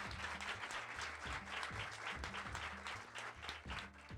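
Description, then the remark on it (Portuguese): A round of applause from a group, dense and steady clapping sustained at a fairly loud level throughout, with a faint low tonal hum running underneath. “Salva de palmas aqui esse senhor.”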